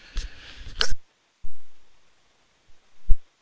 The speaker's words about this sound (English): Pardon me, had to sneeze.